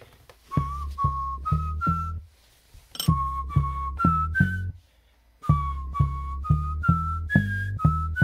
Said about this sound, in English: So there's a little bit of latency, but it's pretty good. And now I'll show you the same bass whistle, but in Chrome instead of Firefox.